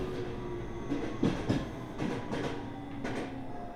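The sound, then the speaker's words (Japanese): A rapid express train bound for Ogawamachi pulls out of Asakusa Station with a steady low rumble, broken by rhythmic clacks of wheels over rail joints and a faint tonal hum. No voices are heard. “快速急行小川町行き浅草駅出ます。”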